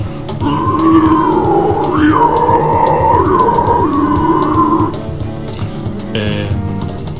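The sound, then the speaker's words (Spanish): A single sustained low, guttural vocal growl, a demonstration of the closed guttural singing technique, lasts about four and a half seconds. It is rough and gritty, with a slightly wavering pitch, then gives way to quieter, scattered noises. “es como que puedo llegar a notas más graves, digamos, que las que llevo con la técnica anterior, pero tiene un poco menos de ganancia, digamos.”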